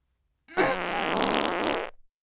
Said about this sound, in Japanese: くっさいおならでそんなに興奮して、本当情けない。